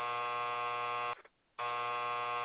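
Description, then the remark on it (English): A harsh, low game show buzzer sounds twice: a long blaring buzz, a brief silence, then a second equally loud buzz of the same flat, raspy tone. No voices. “Do we give him a buzzer or a yay?”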